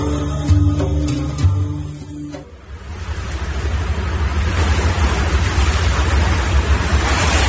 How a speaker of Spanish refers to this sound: El agua salpicaba con fuerza los rostros de todos los ocupantes de la patera.